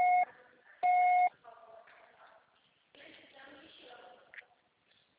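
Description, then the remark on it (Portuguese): Two loud, steady electronic beeps at a fixed mid-high pitch, a short one followed by a longer one, then quiet talking and faint shuffling afterward — a voicemail recording tone. “Grave seu recado agora.”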